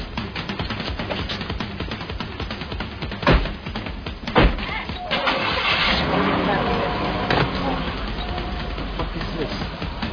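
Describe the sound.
A car engine starts after a couple of heavy thunks, then keeps running with a steady rumble over muffled background voices.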